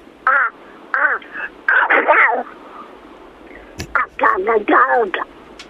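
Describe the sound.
A person imitates a duck sneezing, making a run of nasal, quacking squawks, then a sudden sharp sneeze-like burst, followed by another quick flurry of quacks.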